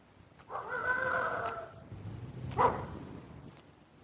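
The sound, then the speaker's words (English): Faint dog vocalizations outdoors on a quiet morning: a drawn-out, howl-like call lasting about a second, followed a moment later by a single short bark against quiet background ambience. “That's the dogs.”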